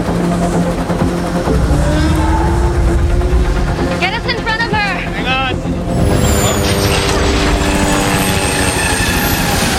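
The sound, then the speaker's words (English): A loud twin-rotor helicopter drones steadily with a heavy low rumble and whirring blade noise throughout as it flies through the valleys and rifts of Monster Island, while brief muffled voices surface partway through. “They're a giant twin blade chopper flying through the valleys and rifts of Monster Island.”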